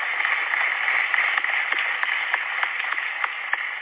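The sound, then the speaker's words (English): An audience applauds steadily for a few seconds, many hands blending into a dense, even wash with occasional sharper individual claps standing out. No one speaks over it. The applause is for Illinois legislators, including Senator Karina Villa, and newly elected IFT president Dan Montgomery. “Please give everyone that I just mentioned a round of applause.”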